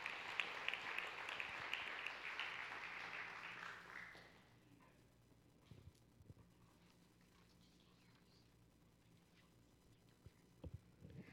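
An audience claps for students called up to the stage, in a dense, steady burst of applause for about four seconds, then it quickly dies away, leaving a low hum and a few scattered soft knocks and shuffles.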